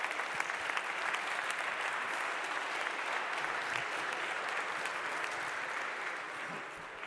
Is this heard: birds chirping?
no